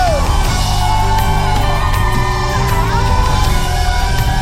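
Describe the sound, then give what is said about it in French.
A crowd lets out shouts and whoops of victory and joy over loud, steady music, with rising and falling cries blending together throughout. “Des cris de victoire en ce lieu!”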